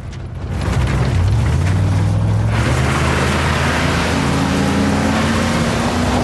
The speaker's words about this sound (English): The military vehicles thunder across the desert at speed. Starting off in single file, they break formation, fanning out across the terrain, kicking up dust as they go.